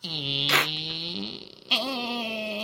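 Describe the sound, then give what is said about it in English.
A voice imitates a single door bolt sliding very slowly: a drawn-out, buzzy, low-pitched creak in two long stretches split by a short pause, each opening with a breathy burst. “Yeah, and then there's just, as opposed to all of the locks on the tavern door, there is one single bolt that very slowly goes...”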